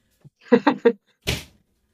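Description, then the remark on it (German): A door shuts with a single soft thud and rustle, coming after a few brief muffled vocal sounds in the background, then quiet. “ich muss hier mal ganz kurz die Tür zumachen, weil die Mädels...”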